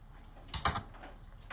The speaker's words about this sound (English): washes the dishes